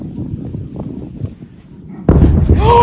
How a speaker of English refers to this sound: Some witnesses were caught off guard by the delayed sound of the explosion. Listen. That plane just had a strike. I don't see the balloon anymore.